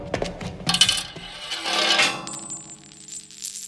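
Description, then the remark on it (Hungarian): A burst of metallic clinking and rattling as coins tumble out of the cat-catcher machine (macskafogó) in a hangar, with bright jingling hits followed by a fading, ringing shimmer as they settle. “Mindig kidobja a pénzt.”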